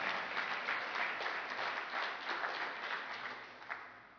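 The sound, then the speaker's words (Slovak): Steady applause from a crowd giving a big round of applause to the Lord, a dense wash of many hands clapping at an even loudness throughout, easing slightly toward the end with no voices clearly standing out. “Dajme jeden veľký potlesk Pánovi.”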